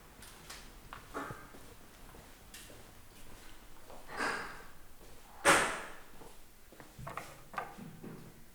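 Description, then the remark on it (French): A building door is pushed open with a few clicks and rattles, then slams shut with one sharp, loud bang partway through, followed by faint scattered knocks. No one speaks. “Porte ouverte.”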